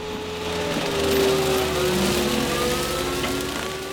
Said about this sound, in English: It's like a giant lawnmower that can also float and spray herbicide. They're typically used in the Louisiana bayous.